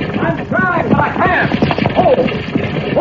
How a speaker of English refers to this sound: The horses look like they run away, Cisco. That driver does not seem to be able to hold them in.